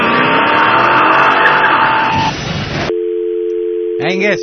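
A loud car engine roars and revs for about two seconds, then cuts off abruptly into a steady electronic hum, followed by a brief warbling, siren-like sweep.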